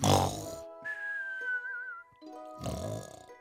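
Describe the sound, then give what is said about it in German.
A voice imitates a sleeping dog's snoring as a magician character pretends to turn into a sleeping dog: two rough, grunting snore bursts framing a thin, wavering whistle in between, like a cartoon snore with a whistled exhale. “Ich verzaubere mich jetzt nämlich in einen schlafenden Hund.”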